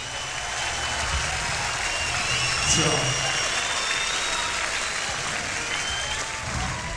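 A large concert crowd at the Hammersmith Odeon in London applauds and cheers steadily as a band is welcomed to the stage, a dense wash of clapping with scattered whistles and shouts, loud and sustained throughout without a break.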